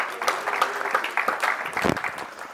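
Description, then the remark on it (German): An audience claps steadily for the two worship (Lobpreis) leaders on the third day of a gathering, a dense wash of many hands with no pause across the whole stretch, fairly loud and even, with faint voices mixed in. “Und den beiden auch mal einen Applaus geben.”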